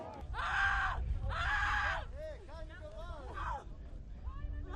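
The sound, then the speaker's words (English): Protesters in Lützerath, Germany, shout two loud, drawn-out chants of "Shame on you" at police in quick succession during an eviction, then fall back to a restless murmur of overlapping voices and scattered calls. “Shame on you, they shouted at police.”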